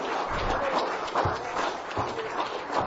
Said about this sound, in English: Give the Lord a hand clap of praise for that this time.